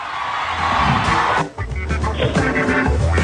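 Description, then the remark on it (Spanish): A loud, sustained crowd roar of cheering and applause, an ovation at an awards event for Buenos Aires province governor Axel Kicillof as a large image of him is shown, a dense wash of noise that stays intense throughout with a brief dip partway through. “Sí, ahí pusieron una imagen muy grande de Axel y fue una ovación.”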